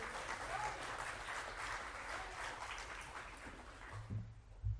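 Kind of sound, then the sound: crowd, audience clapping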